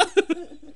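rooster clucking

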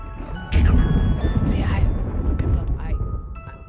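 thunder crack

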